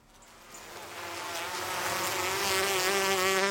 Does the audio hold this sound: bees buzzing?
yes